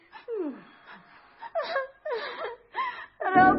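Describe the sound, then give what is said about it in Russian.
A young woman cries and wails in a series of five or six sobbing bursts with quivering, falling pitch, fairly loud. The last wail is the strongest. “Не плачьте, барышня.”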